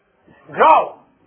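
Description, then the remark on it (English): A person briefly imitates a wolf's growl, a single short vocal rumble that swells to a peak and fades within about a second. “Growl. It's a wolf.”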